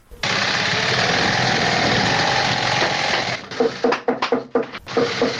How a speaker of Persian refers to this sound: یکی از کارخانه های تولید بود در شهر کابل که کارگرانان با دلسردی تمام و نامید از یک آینده روشن چکش می زنند و چرخ ماشین های بودوزی را با صدا در می آورند.